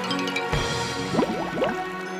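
An axe is deliberately dropped into a river by a woodcutter cutting wood up a tree, plunging into the water with a short splash, followed by a burst of rising, bubbling gurgles as it sinks. Fairly clear, with no voices.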